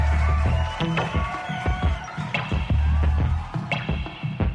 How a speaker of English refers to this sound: Round of applause for them. Thanks very much for coming down.